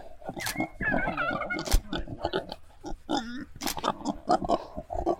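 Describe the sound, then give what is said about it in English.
A pregnant sow grunts and snorts repeatedly in short, irregular bursts, some higher squeaky notes mixed with low rough grunts, fairly loud throughout with no pauses. “If you go have your piglets, you can go back down the pasture with your babies.”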